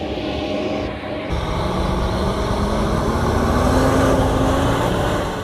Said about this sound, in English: These trucks from the United Nations World Food Programme are crossing the Ajre border in Chad. They're bringing much-needed aid to the war-ravaged West Darfur in Sudan for the first time in 6 months after the key border crossing was reopened.